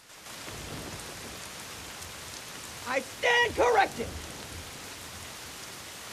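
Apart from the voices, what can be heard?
torrential rain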